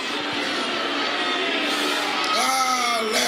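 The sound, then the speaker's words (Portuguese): A church audience shouts cries of glory in praise together in a loud, continuous roar of voices, with one voice rising above the rest in a long wavering yell near the end. “Solta um grito de glória, solta.”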